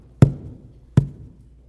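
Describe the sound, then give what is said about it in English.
A door slams shut twice, two heavy thuds with a low boom about three quarters of a second apart, each ringing briefly before fading into quiet. “Door shut.”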